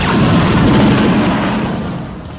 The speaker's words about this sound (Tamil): தாக்குதல் தொடங்கியது. எதிரியின் கவச ஊர்தியை நோக்கி RPG கணையொன்று சீறி சென்று வெடிக்க எங்கும் புகைமயம்.